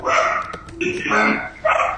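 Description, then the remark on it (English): A dog barks and yips in short bursts during a meeting vote, its sharp calls repeating over a couple of seconds while people talk in the background. “I think the dog is objecting.”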